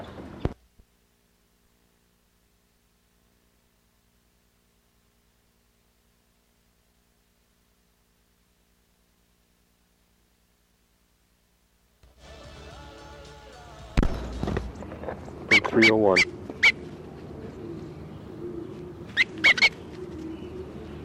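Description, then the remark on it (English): A long stretch of silence, then bird number 57 being handled: rustling, bumping and scuffing noises, with a few brief, high squeaky chirps poking through the commotion. “This is 57 being handled.”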